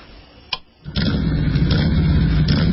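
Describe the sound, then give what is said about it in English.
A motorcycle engine cranks with a brief click, then catches and settles into a loud, steady rumbling idle that carries on to the end, with no voices. “It's hard to be without your bike, so do something easy and protect it with Progressive Motorcycle Insurance.”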